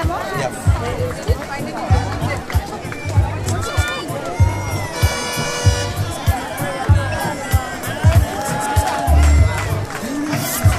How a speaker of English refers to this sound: All right, more runners coming through by the sound of things. I hear clapping and cheering.